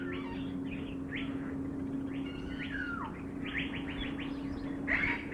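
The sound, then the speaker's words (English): Many birds chirp and sing at once in an aviary recreating a tropical rainforest: quick repeated tweets, trills and a falling whistle layered over a steady low hum and faint background noise. “As you come into the aviary, you can experience what it's like to walk into a tropical rainforest and start hearing the birds.”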